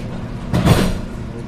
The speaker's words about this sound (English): The doors are closing.